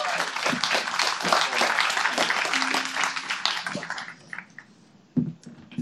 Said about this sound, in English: So can we give all of those people a massive round of applause, please?